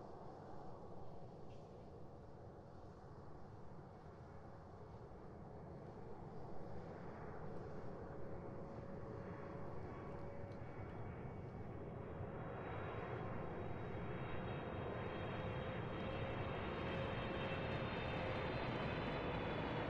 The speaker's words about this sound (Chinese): 好啦，现在我帮您扣一下安全带，因为飞机即将起飞了。好的，现在请您放轻松，飞机起飞的过程中耳朵可能会有点不舒服，但是没关系，放轻松就可以了。